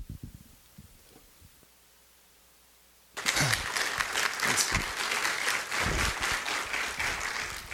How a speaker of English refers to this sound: You know they're clapping because you kept it under 10 minutes.